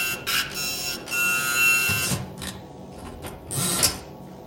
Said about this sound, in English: Feed the paper through the typewriter, please. How are you doing this? Is this a trick typewriter?